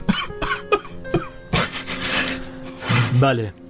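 A man sobs up close, a string of short, gasping, broken cries that swell into a longer strained wail near the end, with no other voices present.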